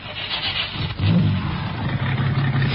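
The engine of a used white convertible car catches and revs up about a second in, its low rumble rising sharply and then holding at a steady, loud drone over a hiss of noise. No one speaks.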